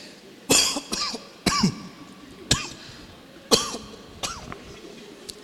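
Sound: coughing and throat clearing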